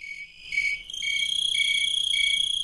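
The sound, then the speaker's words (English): Crickets chirp steadily in a high-pitched, shimmering drone, with a pulsing rhythm of repeated trills layered over a continuous ringing tone, fairly loud with no voices. “Keep listening as these crickets hit a high note.”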